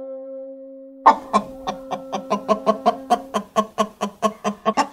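A sustained tone hums for about a second, then a hen breaks into a fast, steady run of sharp clucks, roughly a dozen and a half evenly spaced pulses, fairly loud.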